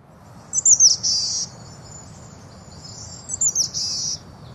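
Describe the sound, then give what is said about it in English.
A boreal chickadee gives its unique call twice, each a short burst of buzzy, nasal notes set a few seconds apart, over a steady low background hum. “But the boreal does have a unique call.”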